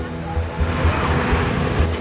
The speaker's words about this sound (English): Camera phone recording. The flash flood's right there!